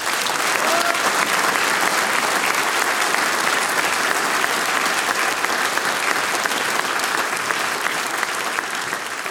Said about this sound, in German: Ein wunderbarer Beweis, dass der Gastgeber, die Singgemeinschaft Landscher Tannhausen, da eine großartige Veranstaltung auf die Füße gestellt hat. Und das verdient einen riesengroßen Applaus.